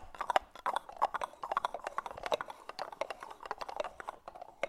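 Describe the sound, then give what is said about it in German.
Rapid horse hooves clip-clopping as riders speed up through rain to escape a thunderstorm, a steady stream of sharp knocks at a quick riding pace with no voices. “Die Freunde reiten schneller, um dem Gewitter zu entkommen.”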